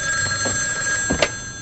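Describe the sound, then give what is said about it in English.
A telephone rings steadily with a bright, sustained electronic tone, moderately loud, while a few soft thuds and rustles of movement pass underneath. “He carries the box over to the phone.”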